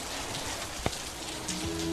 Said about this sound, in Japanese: 今天怎么又下雨啦？